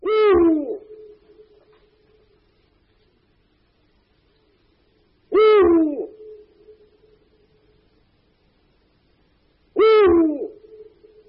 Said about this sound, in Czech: Vír velký, odborným názvem Bubo Bubo, je největší evropskou sovou. Samici jsou větší než samci a mohou mít hmotnost až 3 kg. V rozpětí křídel dosahují 170 cm, což je mnohem více, než tomu je u ostatních druhů u nás žijících sov.